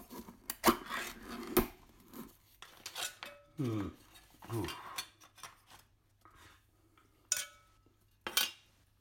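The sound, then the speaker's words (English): Crinkling and tearing as a film lid is ripped off a microwaved plastic food container holding chicken, in several short noisy bursts with light clatters of the tray between them. “I'm going to rip off the lid on this chicken thing.”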